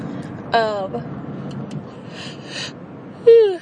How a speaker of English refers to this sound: Okay, sorry about the yawning.